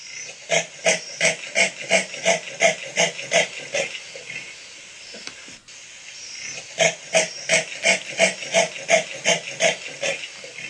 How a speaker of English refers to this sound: but they say that this noise sounds like a saw. So if you'll bear with me in my technological difficulties. So here's a common leopard vocalization to give you a little bit of an idea of what this sawing is.